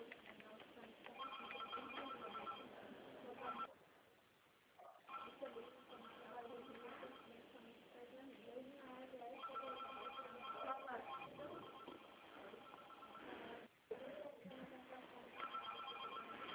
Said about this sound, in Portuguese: Ah, então tá bom, é que tá uma barulheira aqui com o telefone tocando.